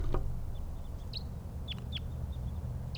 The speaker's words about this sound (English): More wild birds, more type 2s around.